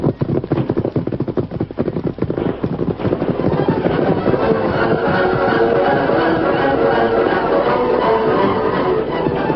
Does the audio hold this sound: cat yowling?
no